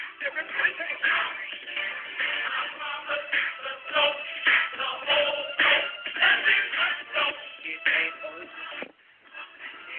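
Feet stomp and shuffle around a room in an irregular, busy rhythm, mixed with a dense wash of crowd noise and voices that carries on for the whole stretch.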